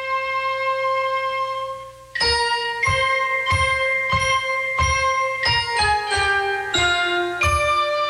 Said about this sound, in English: Just before they visit this back alley doctor, Angie and Rocky hear a love song on the radio. It's all about bells and banjos ringing.